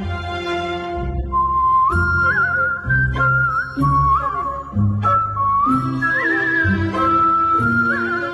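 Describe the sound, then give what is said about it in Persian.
A clear whistled solo melody plays the closing theme tune of the TV series Shabake Makhfi Zanan, rising and falling in sustained notes over steady instrumental accompaniment with a deep bass line, fairly loud throughout, with no talking. “که تیتراژ پایانیش رو با سوت اجرا کردم به عنوان سولیست، که تجربه خیلی متفاوت و جالب و ارزشمندی بود برام.”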